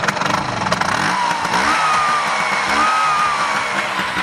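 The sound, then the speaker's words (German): Several Vespa scooter engines putter and buzz steadily, with overlapping revs rising and falling in pitch as they arrive one after another at a large Vespa meeting at the Werft (shipyard) in Korneuburg. No one speaks. “Eine Vespa nach der anderen kommt herein und wir hören die Motoren von den Vespas.”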